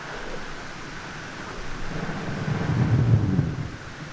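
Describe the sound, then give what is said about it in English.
Countless tiny bubbles fizz and crackle from brash ice melting as it floats on the water surface, forming a dense, static-like hiss that holds steady while a low rumble swells briefly near the end. “The recording that you're listening to here has a lot of noise, or what appears to be static, and you have to think of millions and millions, if not billions, of bubbles from brash ice floating around the surface as that melts.”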